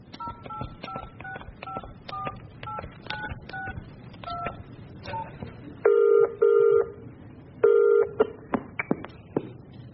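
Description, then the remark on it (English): A quick run of short, beeping keypad tones as a phone number is dialed to call about a bathroom seen in a magazine, then a louder, steady ringing tone sounds in a double burst, repeated, with a few more faint beeps. “I'm phoning about your bathroom.”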